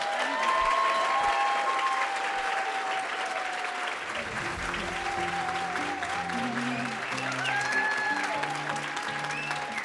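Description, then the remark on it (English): Steady, dense applause from a crowd fills the whole stretch, with scattered whoops and cheers riding on top and a few voices calling out under the clapping. “Crowd noise for the recording.”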